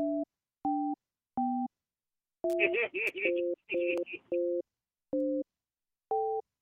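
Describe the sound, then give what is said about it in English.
A series of short, even telephone keypad tones, each a clean pair of pitches, punctuated by a burst of brighter dual-tone beeps in the middle, spaced like digits being entered one by one, as a 10-digit callback number is entered on a phone keypad for a voice message system. “To listen to your message, to leave a callback number, enter the 10-digit number, then press pound.”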